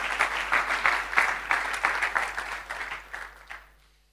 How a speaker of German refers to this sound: Give a hand to my volunteers. Thank you. Ja, einen kleinen Applaus.